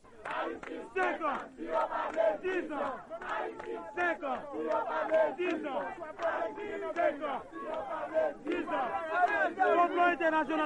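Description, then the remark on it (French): A large crowd of supporters of President Aristide in front of the palace in Port-au-Prince shouts continuously, many voices overlapping in loud, rhythmic chanting and cries that rise and fall without pause across the whole clip. “Le nou tap soti nan conférence de presse à nan palais, nous te contré à gros foule partisan M. Aristide là devant palais.”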